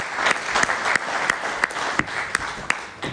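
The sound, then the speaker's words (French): An audience at a village council meeting applauds, a dense steady patter of many hands with a few sharper, louder claps standing out. “Alors, je propose une main d'applaudissement.”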